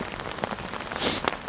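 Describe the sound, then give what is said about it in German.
Raindrops patter steadily on an umbrella overhead at night by a harbour, a dense crackle of small taps with a few sharper individual drops standing out. No one speaks. “Es regnet, Sie hören nur das Tropfen und Klappern, das Knacken könnte man fast sagen, der Regentropfen oben auf dem Schirm.”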